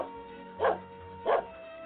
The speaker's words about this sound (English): Good bark for an old dog.